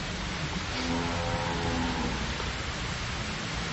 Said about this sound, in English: Ooh, raining.